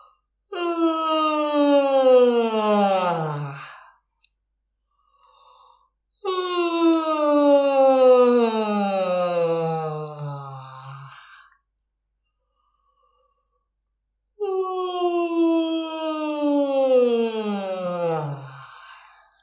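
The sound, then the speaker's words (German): Three long, exaggerated yawns on an open vowel (A or O), each a loud voiced sigh sliding downward in pitch over several seconds, separated by short silences, done as a voice warm-up while standing hip-width with loose knees and stretching. No speech, just the drawn-out vocal yawning. “Dabei gähnen Sie auf A oder O.”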